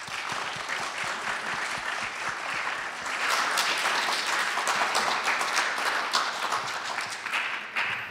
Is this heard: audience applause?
yes